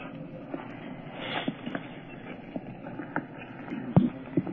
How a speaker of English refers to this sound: What is this? Horse here? Here? Where from? This is coming from the heating system of the university. Oh. They have a nuclear heating system.